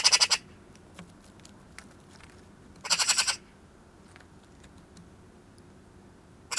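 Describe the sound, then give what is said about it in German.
Two bursts of harsh, rattling magpie chatter, each a rapid run of dry, scratchy notes, separated by a quiet stretch with a few faint clicks and low background rumble. “Das waren Rufe von einer Elster.”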